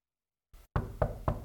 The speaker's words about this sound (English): And it says, "Behold, I'm standing at the door of that local church." Let me read it to you again, Revelation 3:20. "I stand at the door and knock.